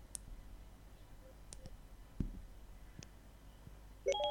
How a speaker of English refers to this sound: Now, because I'm currently active with my iPhone, if I hold the answer stroke end button in for 1 second until we hear a beep, it'll launch Siri.